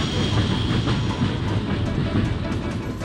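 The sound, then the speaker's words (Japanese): A mine trolley in a video game rolls steadily along rails, a continuous low rumble with faint rhythmic clatter, fairly loud throughout, with no voices. “電車の方のトラックに。トロッコだ。”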